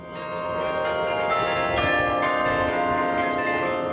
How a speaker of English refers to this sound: Beginning just a few hours ago, the sound of actual bells rang near Hillsborough Street for the first time since the tower was built.